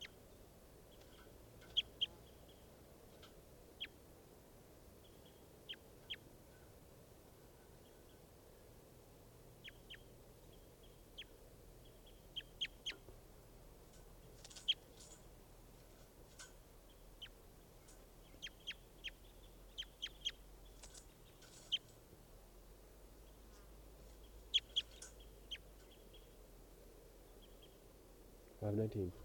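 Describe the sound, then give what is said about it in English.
Short, high-pitched calls of bird number 519 being recorded, chirping at irregular intervals throughout, some in quick clusters, over a low, steady hum. “Recording bird 519 again.”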